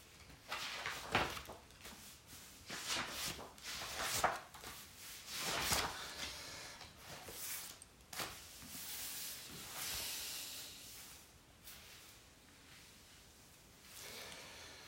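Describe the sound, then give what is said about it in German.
Pages of a Bible being leafed through to the book of Luke: a series of soft, papery swishes and rustles at irregular intervals, some louder than others, with no one speaking. “Oh, ist das so schön, im Wort Gottes zu blättern.”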